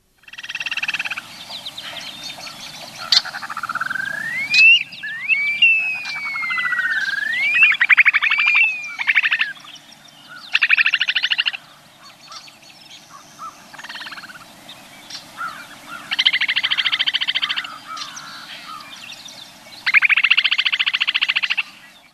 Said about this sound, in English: And it has one of the neatest calls, I think, and we call it a wolf whistle. So, well, let me go ahead and play that upland sandpiper right now so people get a sense of that. Here it is.